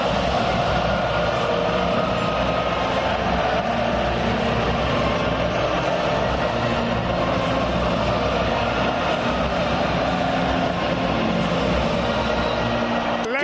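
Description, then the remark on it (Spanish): The Spanish national anthem plays at the Copa del Rey final beneath a loud, unbroken wash of stadium crowd whistling and roaring, with Athletic fans' shouting, that holds steady for the whole stretch, the melody mostly buried under the noise. “Ha habido pitos, pero yo creo que ha habido un grito superior a los pitos, que es el del Athletic, claro, que yo creo que es el que se ha impuesto.”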